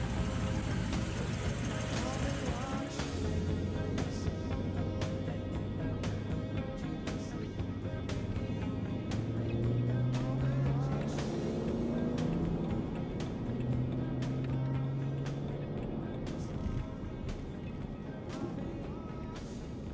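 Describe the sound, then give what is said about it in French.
A 1980s-style car with leather seats hums steadily from inside the cabin, a low continuous rumble that rises slightly in pitch, with faint voices and occasional clicks over it. “J'adore ta voiture, c'est très années 80 avec ses sièges en cuir.”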